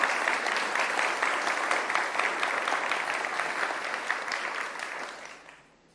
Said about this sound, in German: Und ein paar Leute aus der Gemeinde haben mega, mega, mega viel Zeit investiert und ganz viel gemacht, dass wir heute trotzdem online sind und trotzdem Folien sehen. Und ich finde, einen riesen fetten Applaus dafür und ein Dankeschön.